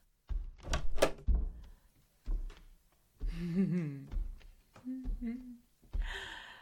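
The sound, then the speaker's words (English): A bedroom door opens and shuts: a few sharp knocks and handle rattles, then a wavering hinge creak and a final thunk, with short breathy sounds mixed in. “Let's go to my bedroom. It's right past this door.”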